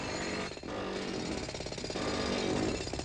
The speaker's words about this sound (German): Warum, so kann man sich fragen, wird der Baulärm nicht öfters in geregelte Bahnen geleitet, indem man zum Beispiel einen Ingenieur beauftragt, die Sinfonie für Aushub, Betonier- und Straßenbaumaschinen zu dirigieren?